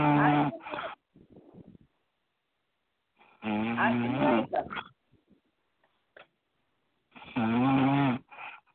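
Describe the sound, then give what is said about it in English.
Loud, heavy snoring from a woman who seems to have fallen asleep and to have trouble breathing: three long, rumbling snores spaced a few seconds apart, each trailing off into a softer breathy wheeze, with near silence between them and no talking. “It seems like the sister's having trouble breathing, so I pray for the sister, but I don't think she can come on right now.”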